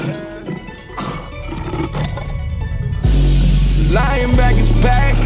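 A lion roars loudly, a deep sustained growl that swells about halfway through and builds again near the end, after a rough, rumbling buildup.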